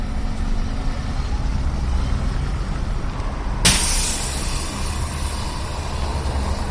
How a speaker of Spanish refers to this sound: Así sonaba el paso de los autobuses esta mañana por esa calle San Juan.